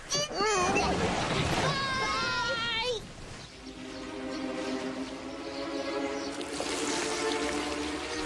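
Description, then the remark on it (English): High, excited voices squeal briefly, then give way to a steady, fairly loud rush of splashing water that continues for several seconds with a faint humming tone underneath. “Look, you guys, splash!”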